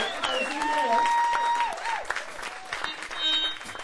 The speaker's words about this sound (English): We don't make a lot of money, but we do it because we love it, so give us the claps, you know?